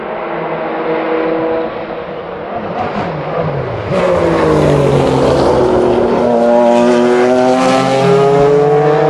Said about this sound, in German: Leute, ihr kriegt jetzt volle Kanne hier den Autokrach mit. Wartet, gönnt euch.